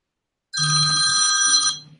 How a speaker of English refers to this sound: My phone is going to ring.